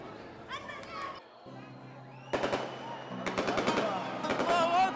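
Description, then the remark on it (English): Rapid bursts of sharp crackling pops from strings of firecrackers ring out in clusters over a school after prayers, amid a lively background of children's voices, shouting and takbir. “After finishing the prayers, sounds of firecrackers and takbir were heard over the school.”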